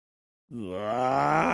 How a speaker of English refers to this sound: Okay. Maybe he was girding up the loins of his mind. I don't know. That was his, like, growl.